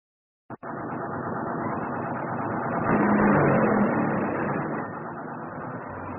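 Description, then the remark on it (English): A bus engine starts after a sharp click, rumbling steadily, then revs louder and swells for a few seconds before settling back as it pulls away, with no voices. A passenger could not board this bus because her Octopus card had no money on it. “Please, may I have some change for the bus?”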